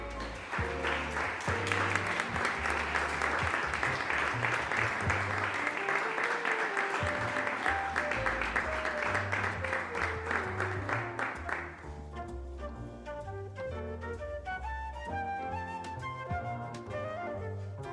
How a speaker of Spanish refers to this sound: Y el primer premio de estas tarjetas navideñas es para un niño de 8 años del Colegio Leoncio Esteves Luis. Aplauso para